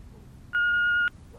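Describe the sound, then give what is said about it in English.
A single steady electronic telephone beep, about half a second long, sounds clearly as a woman dials a phone, rising out of a faint low background hum with no one speaking. “Later, she dials and holds the phone to her ear.”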